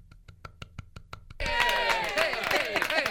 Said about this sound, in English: By the way, Terrific T did a fantastic job last week, so I want to give you the golf clap.